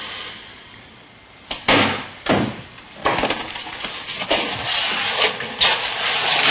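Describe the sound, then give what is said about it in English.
Slow, deliberate footsteps thud at an unhurried, fairly even pace, about one step every second, each a dull scuffing impact on a hard floor, with no talking. “He walked twice as fast as that.”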